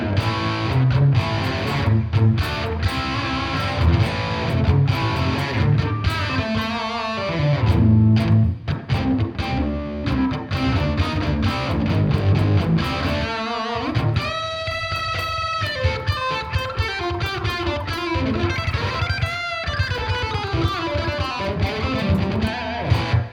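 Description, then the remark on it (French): An overdriven electric guitar, played through a Santa Ana overdrive pedal without boost and a reverb set to a long hall tail, plays chords and single-note lines, thick and gritty with sustained distortion, trailed by a long hall reverb tail; no one speaks. “Comme vous pourrez le constater, il s'agit d'une overdrive très puissante qui permet aussi d'avoir des sons beaucoup plus crémeux et crunchy si on se met en dessous des 50% pour le potard de drive.”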